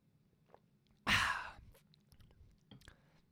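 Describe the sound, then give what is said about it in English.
A single breathy slurp-like burst as someone sips water, trailing off quickly, followed by faint mouth clicks and small swallowing noises, otherwise quiet. “Let me take a sip of water here, build up that hype.”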